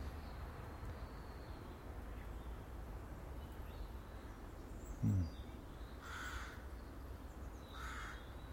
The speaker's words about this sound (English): It's nice to hear the birds, the wee singy birds, and even the noisy crows. I do like the sound of crows, actually, and jackdaws.